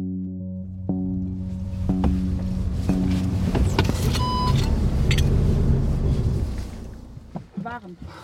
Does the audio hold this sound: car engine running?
yes